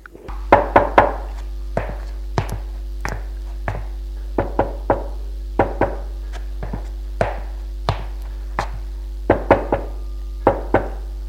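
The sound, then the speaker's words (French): A man knocks on doors after leaving a bedroom, with no one answering: repeated sharp wooden raps in small groups of two or three with short pauses between, fairly loud, continuing for about eleven seconds with no voices. “Il frappe aux portes.”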